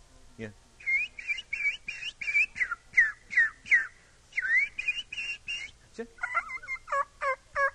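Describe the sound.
A voice imitates wild turkey calls to lure a hen and her half-grown young turkeys, in a quick series of short, rhythmic yelps and clucks, about a dozen notes, clear, with no talking over them.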